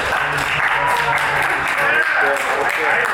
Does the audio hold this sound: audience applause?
yes